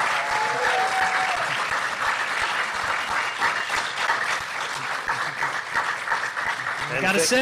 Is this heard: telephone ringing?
no